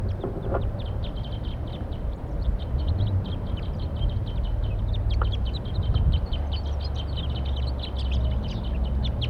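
A flock of wild birds in flight calls in rapid, overlapping high-pitched chirps throughout, layered over a steady, heavy low rumble, with no one speaking.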